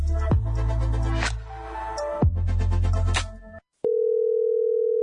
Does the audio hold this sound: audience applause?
no